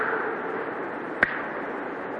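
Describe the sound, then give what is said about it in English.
A single sharp slap, an imitation of bloody sheepskin slapping on Adam's leg as he went down the path through the Garden of Eden, cracks out once against a steady background hiss, then nothing more. “Bloody sheepskin slapping on Adam's leg as he went down.”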